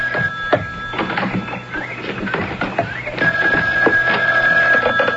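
A telephone rings with a steady electronic tone, sustained over clattering, shuffling background noise; the ring grows louder and more continuous toward the end. No one speaks.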